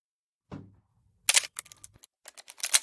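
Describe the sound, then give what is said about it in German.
A mechanical film camera's shutter clicks: a soft thud, then a run of sharp, crisp clicks and ratcheting snaps as the quick-advance lever winds, ending in a louder clack. “Das mechanische Klicken war wie Musik in Johns Ohren.”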